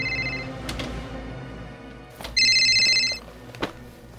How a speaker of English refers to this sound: Do you hear that? It's my cell phone. It's coming from the closet.